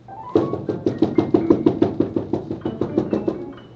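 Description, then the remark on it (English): Rapid, steady knocking on a wooden front door, about fifteen firm raps in a quick even rhythm, fairly loud with no one speaking. “Well, now, who's at the front door?”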